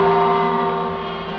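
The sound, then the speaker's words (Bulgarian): A single sustained gong tone from a Radio Television Skopje time signal, marking exactly 7 o'clock, rings steadily with rich, layered overtones, fading only slightly over its length, with no voices. “Гонгот означи точно 7 часот.”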